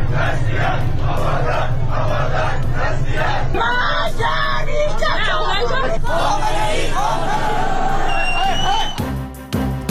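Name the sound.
street protest crowd chanting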